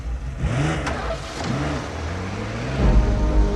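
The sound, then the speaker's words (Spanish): A veterinarian starts his Porsche sports car: the engine revs up loud, its pitch swelling and falling in a few quick bursts before settling into a heavier, rumbling roar. No one speaks. “El doctor pone en movimiento su Porsche.”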